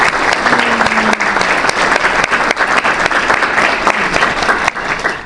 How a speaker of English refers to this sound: Can we have a round of applause for our board members, please?